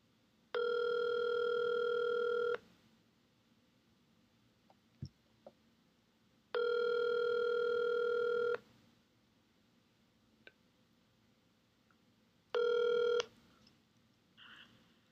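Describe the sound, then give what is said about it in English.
Loud, steady electronic telephone line tones sound three times during a phone call: two long beeps about two seconds each, spaced well apart, then a shorter one, with near-silence and faint clicks between them. “I think you're accidentally trying to disconnect the phone when the stay on button is inside your head.”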